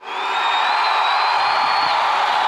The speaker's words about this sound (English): Here they come. Here they come. I'm going to get my thunderous applause button ready.